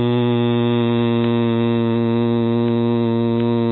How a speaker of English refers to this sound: The sound hum, for example, resonates mainly in the lungs. And again, the way you make it is you take a deep breath. Hum.